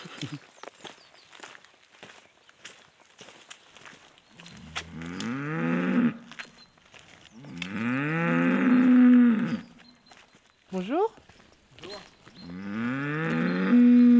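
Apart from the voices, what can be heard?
normande cow mooing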